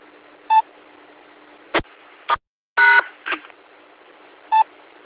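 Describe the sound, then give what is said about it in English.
A series of short electronic dialing tones from a phone patch being made to work, about six separate beeps and bursts spaced irregularly over a steady background hiss, with a brief dropout to silence partway through, as on a radio-linked phone line. “Just seeing if I can get some of the phone patch to cooperate.”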